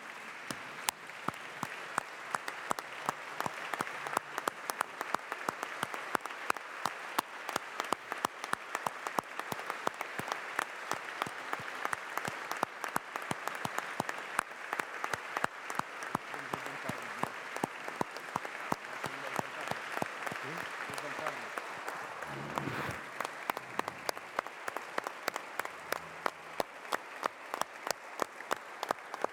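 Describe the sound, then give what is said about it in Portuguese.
Sustained applause from a large group in a parliamentary chamber for two children, steady dense clapping that holds for about half a minute, with faint murmurs of voices appearing near the end before the clapping continues. “Eu pedi à Câmara uma salva de palmas para aquelas duas crianças.”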